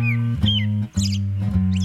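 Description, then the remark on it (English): A bird sings at night, a few short whistled chirps and warbles over a loud, steady low droning hum that briefly dips a couple of times. “Whatever the cause, birds singing at night are one more thing, like rumbling trains and passing cars, that city dwellers learn to sleep through.”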